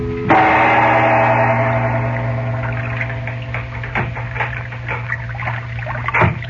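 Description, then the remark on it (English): A sailboat showing no lights glides slowly up the Nile late at night: gentle lapping and splashing with scattered wooden creaks and knocks over a low, steady hum, with no voices. “Now, late that night, a sailboat showing no lights is moving slowly up the dark river.”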